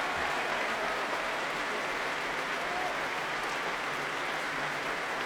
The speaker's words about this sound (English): Back on stage, just listen to the cheers.